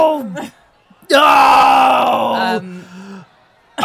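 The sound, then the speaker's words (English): A man spinning around, holding an empty gin bottle and a bin lid, lets out a long, loud, wordless yell lasting over a second, bracketed by shorter strained vocal bursts; the voice is harsh, with no clear words. “And he's just spinning around, yelling incoherently.”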